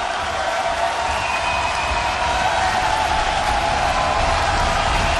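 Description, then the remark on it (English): A large crowd cheers and applauds for a singer without pause, a dense, steady roar of clapping and shouting that holds at an even, loud level for about five seconds, with no single voice standing out. “I mean, the crowd is just going absolutely wild for her.”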